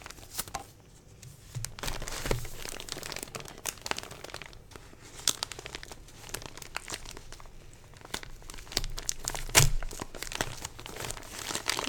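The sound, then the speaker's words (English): Wrapping paper on a Christmas present crinkles and rustles for the whole stretch as it is unwrapped slowly and carefully. The sound is continuous, with scattered sharper crackles and one louder rip-like burst near the end. No one speaks. “I'm just going really carefully because I don't want to tear the paper.”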